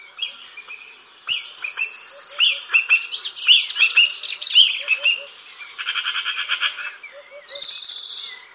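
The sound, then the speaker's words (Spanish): Black kites give shrill, quavering whinnying calls up in the sky over countryside, repeated in rapid wavering bursts that rise and fall, loud, with a brighter trilling run near the end and no talking. “Y arriba, bajo el cielo, los relinchos de los milanos negros.”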